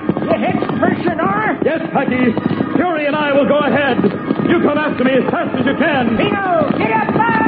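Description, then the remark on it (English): Hooves of Fury, a golden palomino horse, galloping in a quick, steady rhythm run through the whole stretch, partly buried under a loud, dense layer of continuous tonal sound. “Out into the open gallops the great golden palomino fury.”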